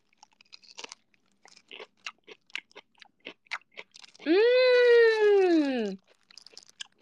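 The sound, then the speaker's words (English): Crisp crunching of someone chewing pickled okra dipped in a dip, with a steady run of sharp bites, briefly broken by a drawn-out voiced hum before the crunching resumes. “So this one is pickled okra. I'm going to dip it in the concoction.”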